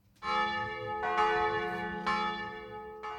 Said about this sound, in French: Pendant la visite, il n'est pas rare d'entendre sonner « Fernand de Marie ». Non, il ne s'agit pas d'une vache, mais plutôt du nom donné à la cloche de l'église. Datée de 1877, elle a été fondue à partir des restes d'une ancienne cloche